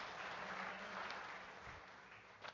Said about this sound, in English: Thank you, guys. Let's give our lovely assistants and Harry assistants a clap. Thank you, guys.